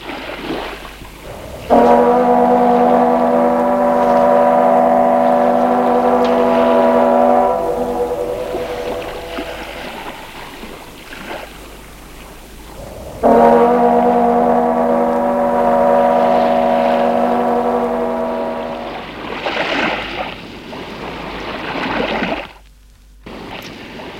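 A ship's deep horn sounds two long, loud blasts several seconds apart over a steady rumble of engine and water, as the ship leaves port in the morning and sails out toward the open sea.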